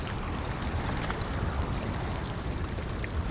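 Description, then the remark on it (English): On a calm day, calm ocean water laps against an iceberg called Tove in a steady, even wash, sprinkled with tiny high-pitched pops and crackles throughout. There are no voices. “It was one of the calmer days, so depending on the nature of the ocean and the ocean state would affect the sound of the iceberg as well and how the iceberg was interacting with that ocean state.”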